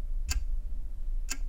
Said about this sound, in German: Vor allem aber höre ich das Ticken der Uhr.